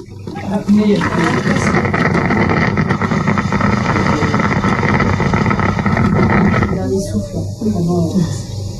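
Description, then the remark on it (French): A loud, steady gurgling roar like an electric coffee maker brewing, lasting about six seconds before cutting off abruptly, with faint muffled sounds before and after. “Au début, quand j'ai connu ces cafetières électriques, ça me traumatisait parce que ça faisait exactement le même bruit quand un malade est plein de sécrétions et que la machine, alors ça fait exactement le bruit de la cafetière.”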